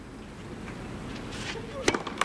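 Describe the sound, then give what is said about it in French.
A tennis ball bounces a few times on a court during a match involving Karolina Muchová and Sabalenka, giving short, sharp pops in an uneven rhythm near the end, over a steady low crowd murmur. “J'adore écouter le bruit du rebond.”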